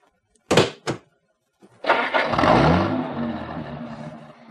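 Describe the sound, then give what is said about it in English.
Two sharp thuds like car doors shutting, then after a pause the engine of a Cadillac found with its keys in it cranks and catches, rising into a loud, steady rumbling idle with a broad rushing roar. No one speaks. “Look, a Cadillac with keys.”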